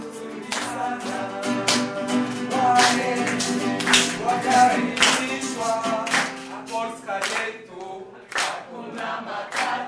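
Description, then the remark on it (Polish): A crowd at a meeting sings together in sustained, harmonized voices while hands clap along in a steady, rhythmic beat, loud and lively throughout. “Ważne było dla mnie to, że na tym spotkaniu ludzie śpiewali, klaskali razem z nim.”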